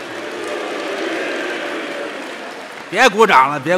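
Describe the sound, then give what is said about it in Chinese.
Steady audience applause after a performer's singing on stage fills the first few seconds, a dense crowd clapping at moderate volume, before a voice cuts in over it near the end. “别鼓掌了， 好嘛？”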